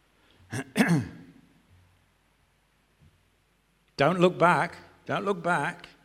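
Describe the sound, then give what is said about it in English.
Two sharp coughs up front, then a few seconds of near silence before two loud, rough bouts of throat clearing, each lasting about a second. “You made me cough”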